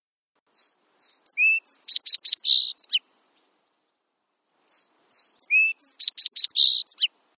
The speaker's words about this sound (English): This is a very small bird, a song sparrow. Song sparrows are continental, living from the Aleutian Islands all across Canada, the United States, into Mexico. They are inconspicuous, one of the little brown birds, until the male starts his spring song